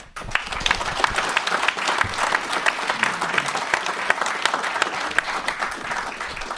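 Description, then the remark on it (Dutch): A crowd breaks into sustained applause thanking a departing board member for his years of service, dense overlapping clapping that stays steady and fairly loud for several seconds, with no voices standing out above it. “omdat jij aftreedt, willen we je inmiddels een hartelijk klaterend applaus ontzettend bedanken voor al die jaren.”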